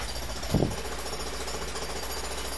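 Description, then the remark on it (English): A jackhammer breaks concrete right outside a window before 8 a.m., a steady muffled mechanical pounding that runs throughout with a brief heavier thump near the start. No one speaks. “Let's grab a jackhammer and go to town on the concrete.”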